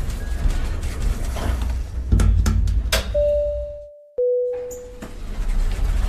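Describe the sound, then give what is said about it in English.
An elevator chime sounds two clear, steady notes as the doors close, the second lower than the first, after a few sharp clunks over a low rumbling background that fades briefly between the tones. “I gotta get off at this floor.”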